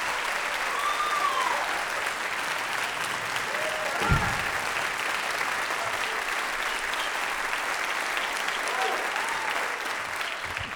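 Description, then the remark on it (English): Sustained audience applause for a singer fills the whole stretch, a dense, steady roar of clapping hands with a few whistles and cheers rising above it, loud and unbroken from start to finish. “I heard the applause.”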